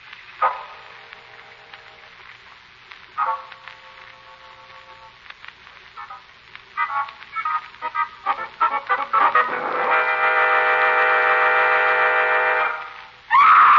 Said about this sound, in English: that scream.